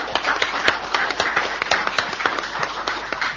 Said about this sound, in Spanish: Un aplauso para ellos.